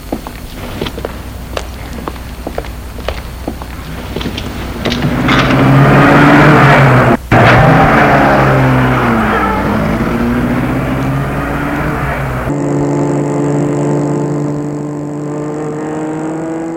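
A series of sharp clicks and rattles gives way to a car engine roaring to life and accelerating hard as the car is started and driven at a man, its pitch climbing loudly before settling into a steady, high drone.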